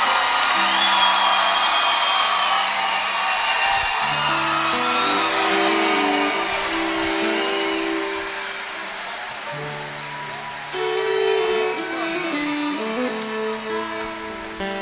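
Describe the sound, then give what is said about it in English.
A crowd applauds loudly and steadily for about fifteen seconds, with shrill whoops and shouts rising above the clapping throughout and a brief dip before it swells again, as a guest singer is called back out on stage to sing. “So before I do the song that he said changed his life, I would love it if y'all would give him a big round of applause and get him to come back out here and sing this with us.”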